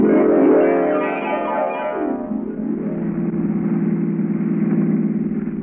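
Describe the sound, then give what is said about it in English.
A car engine hums steadily and fairly loud as the car is driven around the countryside, with a rising pitch as it speeds up in the first couple of seconds before settling into an even cruising drone. No voices. “Using the judge's car and gas, she carted me all over the countryside looking for my opportunity”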